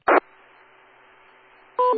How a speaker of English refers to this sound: There's like some kind of ding dong when you were transmitting. Was that like from your computer or something? It's like a ding dong. Like, where's that coming from?